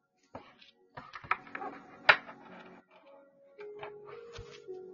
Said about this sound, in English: Shuffle these cards.